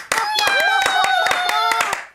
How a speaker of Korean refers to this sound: 자, 모두 박수! 더 크게!